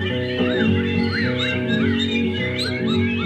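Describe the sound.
A voice imitates a bird call, with rising and falling whistly chirps over a steady musical accompaniment, clear for a few seconds.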